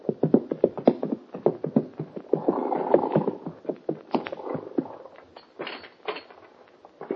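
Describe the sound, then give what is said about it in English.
Two horses' hooves clop steadily, a quick irregular clip-clop that swells and thins as the riders come up to the door of Mort Robertson's ranch house on Clear Creek and slow down, with faint scuffing between beats. “Only a few minutes after the meeting on the plane, that Hoppy and the kid ride up to the door of Mort Robertson's ranch house on Clear Creek.”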